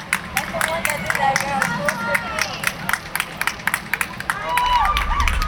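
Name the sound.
small crowd cheering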